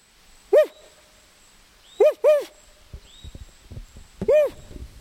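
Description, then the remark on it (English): In the Garcia River Forest, a man's voice imitates the call of another owl in the territory with four short, clear hoots: one, then a quick pair, then a final hoot, spaced over a few seconds with faint rustling in the quiet gaps. “He waits, but no response, so he reluctantly makes a call like another owl in the territory.”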